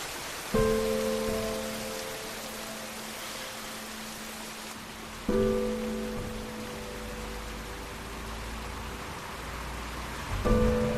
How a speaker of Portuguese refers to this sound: É noite. Sozinho e molhado da chuva